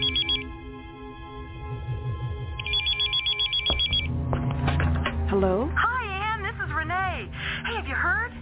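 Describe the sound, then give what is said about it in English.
An old-fashioned telephone bell rings in two trilling bursts, one brief and one longer, clear over a low humming background, before other warbling sounds take over. “And then one blue April morning, the phone call.”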